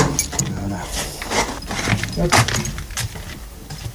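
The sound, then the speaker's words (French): Keys jangle and clink against the lock of the second door to a cellar, with repeated metallic rattles and scrapes as someone fumbles at it, amid a low background rumble. “Pourquoi elle marche pas celle-là? C'est quoi ce bordel là? Deuxième porte pour la cave.”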